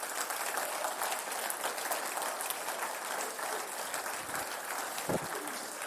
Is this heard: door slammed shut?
no